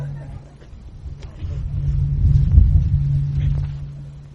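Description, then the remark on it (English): Outdoor wind buffets the microphone as traffic, including motorcycles, rumbles past, the low roar swelling to a peak midway and easing off, with a steady low hum running underneath. “Try to get this up as loud as it can because it with the wind and the traffic and everything. Yeah, and motorcycles too.”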